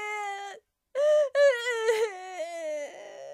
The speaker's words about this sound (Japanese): あなた、泣き声の方が大きくてよくわからないもの。